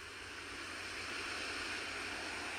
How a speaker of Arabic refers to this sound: خلي صوت الموج ياخدنا ويجيبنا بكل أمان نحن وقاعدين على الشط.